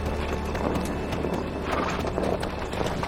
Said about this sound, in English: Trotting through the snow in a one-horse open sleigh.